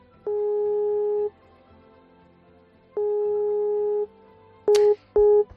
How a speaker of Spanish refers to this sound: Y así una y otra vez, es decir, al otro lado del teléfono, o nadie lo coge o comunica o cortan continuamente la llamada.